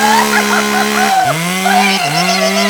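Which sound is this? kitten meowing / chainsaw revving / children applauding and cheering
chainsaw revving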